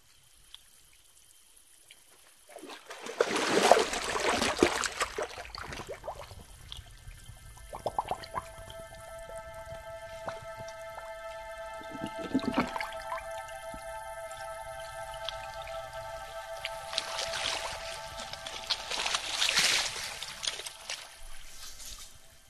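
Water trickles and pours steadily as a water bottle is filled, with splashy bursts at the start and end and a faint ringing tone running underneath.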